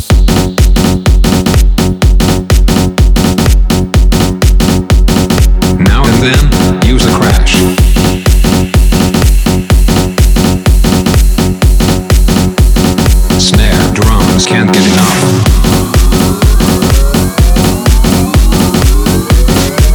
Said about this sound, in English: Don't forget some wobbles.